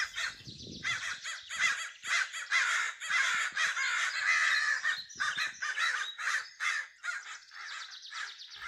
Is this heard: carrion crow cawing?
yes